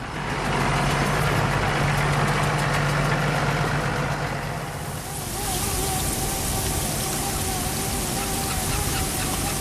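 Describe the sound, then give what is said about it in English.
A tractor engine idles and rumbles steadily while spreading slurry: a pump in the yard sends slurry through a pipe to an applicator in the field, and a 4-inch wide hose is dragged through the grass behind the tractor. The liquid sprays and hisses across the ground like heavy rain, swelling louder and brighter halfway through. No one speaks. “A 4-inch wide hose pipe is dragged through the grass behind a tractor that's spreading slurry.”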